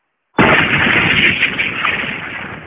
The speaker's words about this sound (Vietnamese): Tiếng pháo ở hai bên núi đùng đùng nổ lên bất tuyệt. Có rất nhiều quả pháo thăng thiên bay lên không trung, nổ tung, khánh chúc Ngũ Nhạc Phái chính thức khai sơn lập phái.